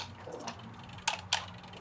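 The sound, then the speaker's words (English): A kitchen timer being set for about 10 minutes while a pie bakes in a 425-degree oven: a couple of sharp mechanical clicks and faint ratcheting over a low steady hum, with no one talking. “Timer on.”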